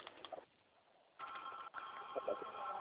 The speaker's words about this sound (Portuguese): Oh, o telefone abençoado.